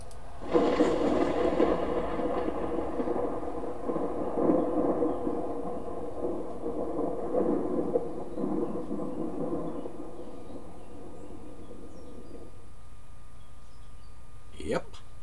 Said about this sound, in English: Thunder and lightning.